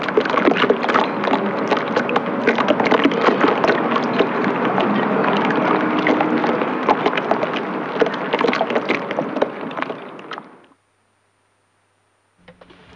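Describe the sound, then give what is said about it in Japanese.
Steady water lapping and sloshing against a yacht's hull in a light breeze, with scattered sharp clinks of rope striking the mast, running continuously for about ten seconds before abruptly stopping. “最後の方でこう水の音とポールの当たる音とがタポタポカンカンって 自分がこうプカプカ浮いて漂ってるような気持ちになって、気持ちのいい音でしたね。”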